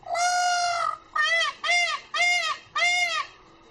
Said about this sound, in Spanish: Pues así canta un pavo real, por si no lo sabías. Allí son varios los que se han visto danzando a sus anchas.